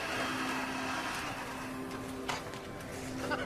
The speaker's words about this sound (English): Now she vacuums the carpet before the painted red backdrop dotted with stars. The shooting area lies otherwise vacant.